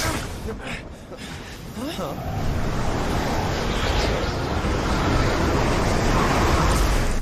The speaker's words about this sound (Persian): گرد باد فرار کنین.